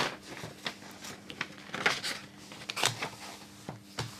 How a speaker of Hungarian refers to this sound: Most lapozni fogok egyet, elnézést.